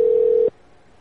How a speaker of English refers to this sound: Ring. Hello. You reached the phone of ….